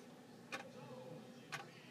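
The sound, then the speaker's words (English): A clock placed underneath a TV ticks twice, with crisp, sharp clicks exactly one second apart, fairly quiet against a low, steady hum. “Do you hear that ticking? That ticking is driving me mad.”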